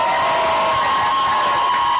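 A crowd cheers and whoops for a first-time performer in a steady, dense roar, with a sustained high whistle or shout riding on top throughout the two seconds.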